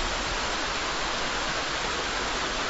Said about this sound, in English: That is the sound of a rushing river, so crystal clear you can look down and see the sandy bottom. I'm standing on a bridge of great historical importance. I'm in eastern Switzerland.